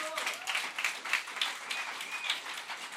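A crowd applauds steadily, a dense wash of many hands clapping, with faint whistles or cheers rising briefly through it.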